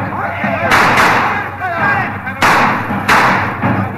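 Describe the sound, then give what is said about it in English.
Four sharp gunshots ring out at uneven intervals, each a loud, sudden crack with a short decay, over a steady background rumble and some indistinct voices, as men on a train fire at bandits raiding it in the desert about 50 miles from Perla. “Hey, save your bullets, Mr. Dobbs. You're too far off now.”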